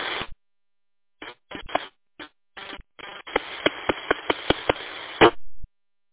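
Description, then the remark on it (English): Something bangs against a microphone at a table: a few scattered bursts, then a steady buzzing rasp punctuated by about seven sharp, evenly spaced knocks, loud and with no one talking. “It is right there, banging on the microphone at the table.”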